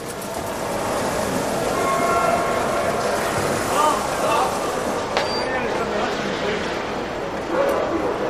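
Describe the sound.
A train pulls into the railway station in Marseille, France, with a steady rumble, a brief high squeal of brakes partway through, and indistinct voices murmuring in the background.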